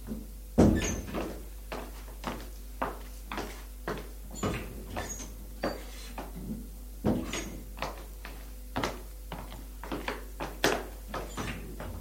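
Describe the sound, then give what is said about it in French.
A quick run of sharp clunks and rattles as a man opens all the doors of the first floor one after another, about a couple per second, over a faint steady hum, with no voices. “Il ouvre toutes les portes du premier étage.”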